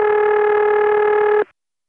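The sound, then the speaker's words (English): A loud, steady, buzzy, distorted telephone ring tone from an independent exchange, known as a St. Thomas ring, heard on an intercept call to a vacant number, sounds in one unbroken burst of about a second and a half, then cuts off into silence. “Well, that's one of those independent rings, which I later came to know as St. Thomas ring.”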